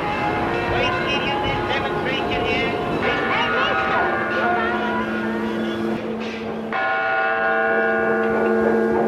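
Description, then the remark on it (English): Church bells toll loudly and steadily in 1920s New York City, their overlapping ringing tones sustained throughout, over a dense bed of engine rumble and indistinct voices from a busy street. “We hear church bells tolling and engines rattling and barkers barking, and these sounds let us glimpse the consciousness of a specific place and a specific time.”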